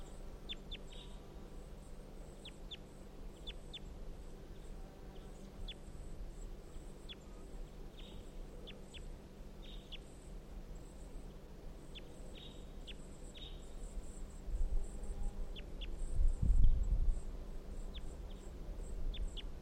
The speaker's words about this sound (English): This is the wild bird. 350 is responding.